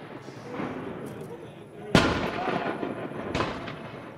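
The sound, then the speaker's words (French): Two sharp gunshots from village-made muzzle-loading rifles packed with powder, fired by men, ring out, the first loud and booming, the second a moment later and softer, over a steady background murmur. “d'autres tiraient des coups de feu avec leurs fusils fabriqués au village, bourrés de poudre.”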